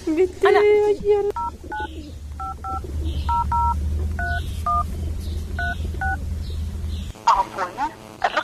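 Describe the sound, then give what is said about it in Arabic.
A phone keypad is dialed: about ten short two-tone beeps in an uneven rhythm, fairly clear over a low background hum, with voices heard before and after the dialing. “عليك على كده ضرب لها تليفون.”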